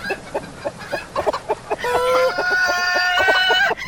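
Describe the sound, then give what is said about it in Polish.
A hen clucks in a quick run of short clucks, then breaks into a long, loud, drawn-out squawk that holds steady before cutting off. “Czy ktoś wreszcie uciszy tę kurę?”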